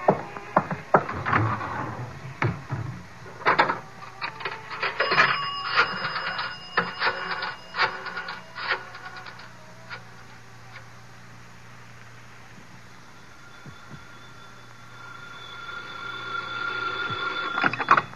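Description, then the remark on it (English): Rapid mechanical clicking and ratcheting, like a rotary phone being dialed in a phone booth at the Riviera, fills the first half, then after a quiet stretch a steady electronic ring tone sounds on the line. “I gotta make a phone call. There's a booth.”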